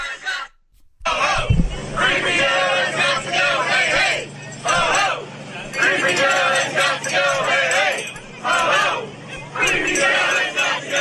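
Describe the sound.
A crowd of about 60 or 70 people outdoors chants in unison, shouting a short phrase over and over in a steady, rhythmic pattern. The voices are loud and continuous after a brief moment of silence at the start.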